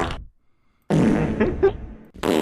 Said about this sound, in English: Dude, I just, so what if we just like started the episode with like, ladies and gentlemen, we need your help. Which one of these fart sounds is the perfect one for the Wolverine Patrol?